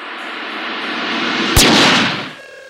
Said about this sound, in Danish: Så åbner den, og der går skuddet sig af.